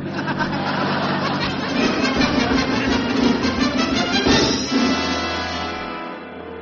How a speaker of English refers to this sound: And get yourself out of this heavy traffic.